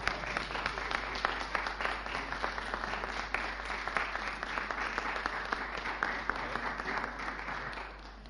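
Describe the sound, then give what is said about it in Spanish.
Sustained audience applause, a dense wash of many hands clapping at a steady loud level for about eight seconds before easing off slightly at the end. “Yo creo que un aplauso.”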